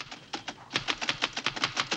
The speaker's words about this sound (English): They hear the noise of Miss Wheeler typing furiously in a nearby office and share a despondent look.